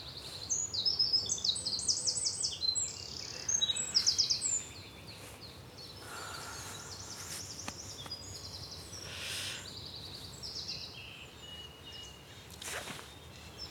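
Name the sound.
common nightingale singing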